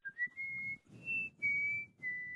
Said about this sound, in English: Are you done whistling?